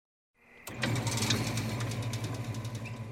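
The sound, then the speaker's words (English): An engine turns over and settles into a steady, throbbing idle, its low rumble pulsing rhythmically with a faint mechanical rattle on top, as cars and trucks roll out of the gates of the West Elk Mine in the North Fork at 11 p.m. on a Friday night. No voices. “on a Friday night, the West Elk Mine opens its gates. Cars and trucks start rolling out.”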